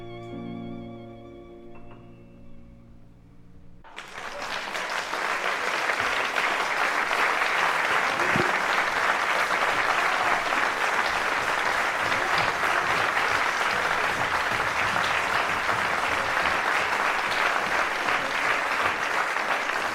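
Audience applause bursts in suddenly after a few seconds of soft tonal music, then continues as steady, loud, dense clapping from many hands until the end.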